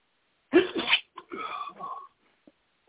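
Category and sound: human body sound, sneeze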